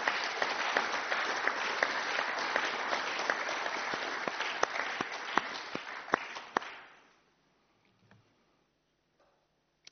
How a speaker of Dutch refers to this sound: Dus voordat we met elkaar gaan spreken over elkaars werk, gaan we eerst wat mij betreft ook een applaus geven aan al die mensen die voor u en voor ons hebben gewerkt en werken elke dag om ons werk mogelijk te maken.